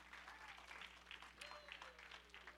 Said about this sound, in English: Give a lot of clap offering. Hallelujah. Praise the Lord.